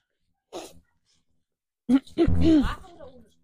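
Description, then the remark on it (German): A short breathy burst, then after a pause a series of loud barking and yelping noises made by human voices imitating dogs, with no actual words. “So, alle rufen mal ihre Hunde wieder ab. Es war ein haltloses Chaos, kann ich sagen.”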